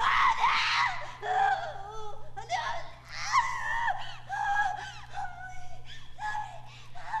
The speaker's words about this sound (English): She tried to crawl to a nearby building and screamed for help. But her attacker heard her screams and came back to finish the job.